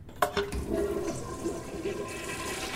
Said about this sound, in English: This antique toilet dating to 1895. Does it still flush?